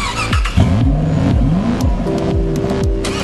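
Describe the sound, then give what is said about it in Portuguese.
The 600 cc four-stroke engine of a student-built high-performance prototype race car from Brazil, made for the Formula SAE competition, revs high, rising and dropping in pitch over and over, loud, with tires squealing briefly; no one speaks. “Em todo o processo, não é só o motor de 4 tempos de 600 cilindradas, capaz de ir de 0 a 100 km em segundos, que chama a atenção.”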